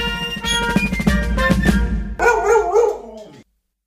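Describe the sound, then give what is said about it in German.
A short upbeat musical jingle with drums, followed by a loud burst of dog barking and yipping near the end before it cuts to silence. “Der Wuff der Woche.”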